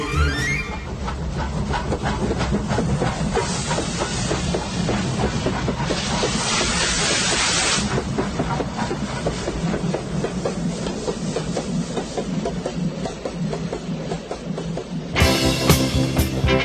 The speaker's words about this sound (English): we are on the tram taking a tour of the city, getting ready to go on the way to the marina.